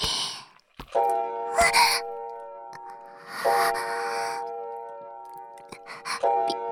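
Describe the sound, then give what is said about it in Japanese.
A loud pendulum wall clock strikes three times, slow and evenly spaced, each ringing chime tone sustaining and fading into the next, with soft breathy sighs heard alongside. “あの柱時計、音大きすぎるんだよね。”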